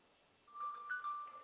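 signal or alarm, mobile phone ringing

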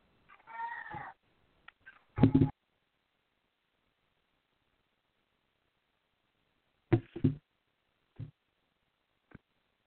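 animal, cat meowing

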